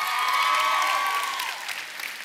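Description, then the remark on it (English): An audience applauds with dense, steady clapping that holds strong for over a second before easing off slightly. A thin whoop or whistle rises above the applause early on. “That happened last night, and that's worthy of some applause.”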